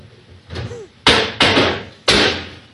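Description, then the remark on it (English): A man slams cupboard doors shut in quick succession, four loud, sharp wooden bangs after a softer knock, each cracking off abruptly with a brief ring, and no voices. “That's him slamming the cupboards.”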